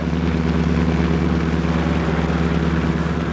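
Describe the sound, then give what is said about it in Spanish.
A car engine hums with a steady, low droning rumble, fairly loud, holding an even pitch and volume as the car drives off lightly, pulling away from the area, with no voices. “El carro se impulsa ligero, alejándose de aquel sector.”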